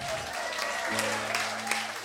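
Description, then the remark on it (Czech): An audience applauds workshop participants invited up front, with dense, steady clapping that holds an even loudness for about two seconds, a faint low hum running underneath. “Prosím, potlesk za odvahu.”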